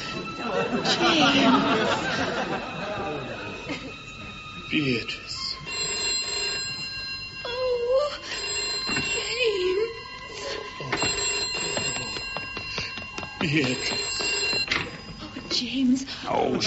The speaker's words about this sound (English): Is that the fire brigade? No, sorry, wrong number. That phone's not stopped ringing all day.